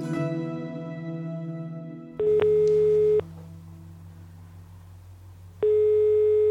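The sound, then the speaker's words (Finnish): A telephone ringback tone of an outgoing phone call sounds as a steady, moderately loud beep lasting about a second, a pause, then another beep beginning, with a low hum underneath and no one speaking. “Itse tavoitan Kimmon veljen yhden kerran puhelimitse.”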